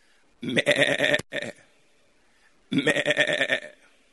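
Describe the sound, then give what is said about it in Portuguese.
A person imitates a sheep bleating: two long, wavering, nasal bleats separated by a brief pause and a short extra bleat, loud, with no talking. “E enquanto eu estou me comportando como ovelha, nada me faltará.”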